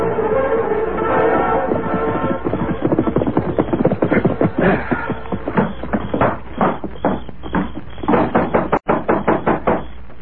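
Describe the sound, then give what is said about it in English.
Repeated loud knocking on the sheriff's wooden door, a rapid run of hard raps that grows more insistent, with a couple of sharp heavy bangs near the end. “Open the door, Sheriff.”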